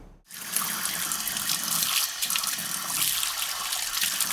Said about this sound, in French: Vous entendrez donc le canal d'arrosage coulant en début d'été et à sec quelques semaines après